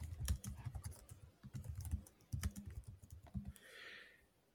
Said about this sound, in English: Giving some more sweet, sweet typing.